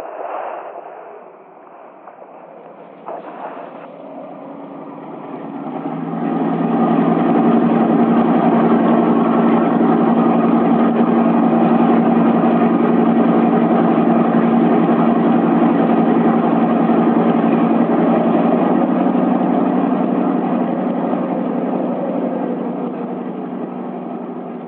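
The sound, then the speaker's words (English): A small fishing boat's motor starts quietly, then swells after a few seconds into a loud, steady engine drone with a low hum that continues without a break as the boat is turned for shore in wind and waves. No one speaks. “Feeling defeated, he turns the bow of the boat for shore.”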